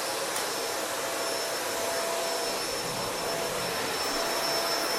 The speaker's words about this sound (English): So, I'm vacuuming the kitchen right now. You hear those like clinginess, that's cat bowls. There are 8 of them on the floor because our cats get hard food and wet food, so they have a different bowl for each type.